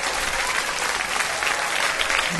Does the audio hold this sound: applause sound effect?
yes